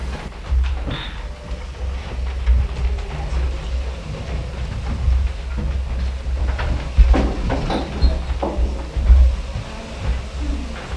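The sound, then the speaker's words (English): Chairs are cleared to the side of the room, scraping and clunking across a hard floor, with a steady stream of irregular knocks and drags over a low rumble of room noise, some louder thuds standing out near the end. “What we want to do is just clear the chairs to the side of the room.”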